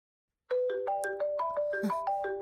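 phone ringing

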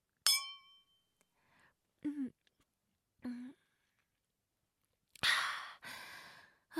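glasses clinking

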